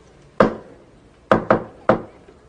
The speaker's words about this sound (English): I will knock four times, okay? It's gonna be our secret code.